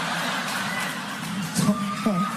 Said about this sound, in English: I appreciate it, but I was trying to think of the next line. I'm like, all I hear is clapping.